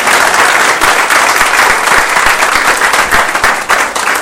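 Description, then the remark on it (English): A crowd in Catskill applauds Mayor Seeley, many hands clapping in a dense, sustained wash of sound that stays loud and even throughout, with no voices standing out. “Let's give the President a round of applause.”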